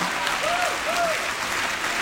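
An audience claps steadily and densely for the full two seconds, loud, with two brief swooping tones rising above the clapping near the start.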